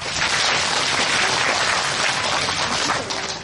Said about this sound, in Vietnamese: Cho các em một tràng pháo tay.